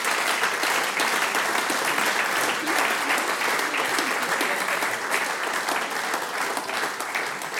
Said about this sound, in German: In diesem Sinne großen Applaus für die Gruppe …. Danke euch.